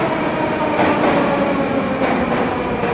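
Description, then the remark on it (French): A metro train rumbles steadily and loudly through Dobryninskaya underground station in Moscow, a dense roar of wheels and motor with faint rhythmic rail clatter and no voices. “on vient de sortir de la station de métro Dobrynenskaya”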